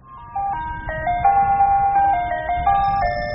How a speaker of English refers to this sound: three ice cream trucks are on the move